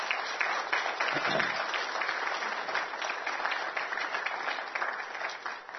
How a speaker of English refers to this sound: We clap now, but that's the last clap you'll get for 10 years.